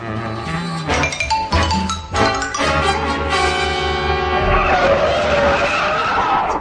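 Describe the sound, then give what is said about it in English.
A car's tires squeal loudly in a long, high-pitched skid as it brakes hard and draws up outside, with engine roar underneath, ending in a rougher scraping rumble as it comes to a stop. “There's a music link just drawn up outside.”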